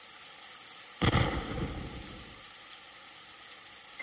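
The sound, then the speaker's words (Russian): A single cannon shot, seemingly from the direction of the sea during a heavy storm, booms out suddenly, its deep rumble rolling and fading over about a second against a steady background hiss, with no one speaking. “Я читал Библию, погруженный в серьезные мысли о своем тогдашнем положении, и вдруг я услышал пушечный выстрел и, как мне показалось, со стороны моря.”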